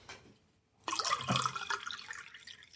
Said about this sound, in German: Oh ja, doch, ich nehme mal einen. Komm hier, ich gieße mal einen Eierlikör ein.